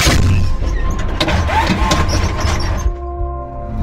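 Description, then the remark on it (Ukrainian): A loud, sustained booming blast from an artillery gun, full of crackling bursts, that cuts off abruptly near the end and leaves a faint steady ringing hum. “4 по готовності без команди, відновлюючи налаштування. Постріл!”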